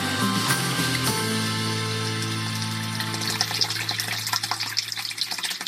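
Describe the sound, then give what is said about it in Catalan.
Water runs steadily from the Casanell spring fountain in Taradell, a continuous splashing rush that grows slightly busier. A fading musical tone is heard at the start. No one speaks. “Som a la font de Casanell, a Taradell.”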